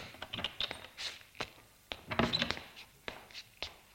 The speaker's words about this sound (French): Porte d'entrée s'ouvre.